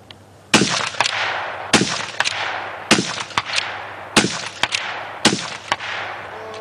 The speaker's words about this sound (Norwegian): Det er fem skudd. Nei, det var sjette. Jeg skjønte ikke. Ja, okay. Dette var altså en hel runde med den idretten. Men dette var en utøver? Dette var en utøver, ja.